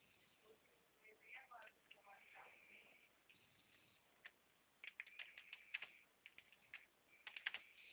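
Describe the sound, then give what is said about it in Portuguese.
Quick, irregular clicks of someone typing information into a computer keyboard, fairly soft, coming in bursts with short pauses over a quiet, band-limited background. “Só mais um momento que eu estou digitando as informações, tá?”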